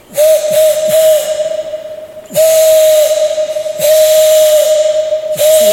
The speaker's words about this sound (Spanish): Reconocería el sonido. El potente silbido de la concha se escuchó retumbando en las paredes del cañón.